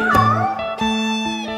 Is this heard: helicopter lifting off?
no